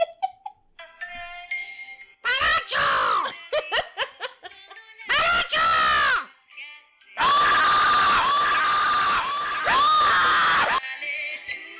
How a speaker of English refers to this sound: That's a terrifying song. But no, this is a children's lullaby about being as silent as a barn owl and going to sleep